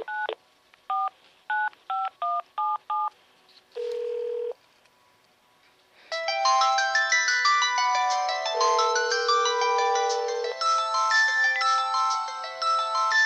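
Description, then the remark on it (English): A quick series of keypad dialing beeps and a short steady tone, then a loud, bright melodic phone ringtone plays continuously for several seconds, with no one talking. “I'll unblock this number and show you what happens when I actually get a number, because it will say the number of the person who called.”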